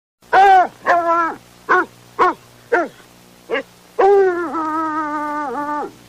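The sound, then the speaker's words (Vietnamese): A hunting dog lets out a series of short, sharp yelps, then, with its head thrown back, a long, sustained mournful howl, loud with no other sounds around it. “Con chó săn thứ nhất ngửa cổ hú lên một tiếng thất vọng. Con thứ hai cũng kêu.”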